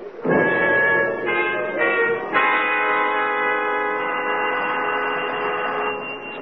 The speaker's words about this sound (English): Doesn't seem to be an answer. We'll go downstairs and wait for him. I think he's home. He doesn't answer the bell.